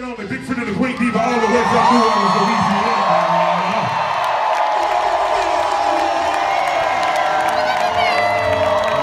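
A loud, sustained air horn blares over an excited crowd cheering and whooping, the noise continuous and close for the whole stretch.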